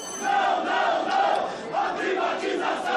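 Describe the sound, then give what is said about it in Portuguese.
A crowd of protesters in a chamber in Brazil shouts loudly and without pause, many overlapping voices merging into a roar that swells and dips in waves, with no single speaker standing out. “Foi falado aqui, senhor presidente, a gente tem que perguntar a essas pessoas que vêm aqui gritar, essas pessoas que vêm aqui acabar com a ordem, a favor de quem que elas estão?”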